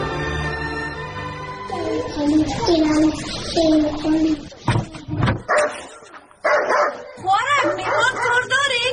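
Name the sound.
dog barking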